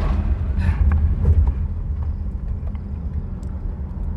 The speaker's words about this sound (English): Whoa. Oh my gosh. That was scary. Yeah, the car driving so fast. Poacher.